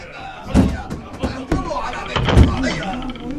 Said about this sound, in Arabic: أيها الفرسان، اهجموا على دار الرضا وحطموا الباب، ادخلوها بخيولكم. هيا يا رجال، هيا كسروا الباب، هيا هيا.